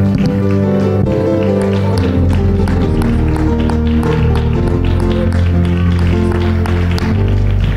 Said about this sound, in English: Let's clap our hands and give a great shout of praise to the Lord.